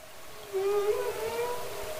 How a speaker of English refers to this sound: And the sounds that humpback whales make and other marine mammals make, they're not just for fun. They're very important.